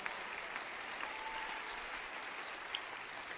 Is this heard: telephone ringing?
no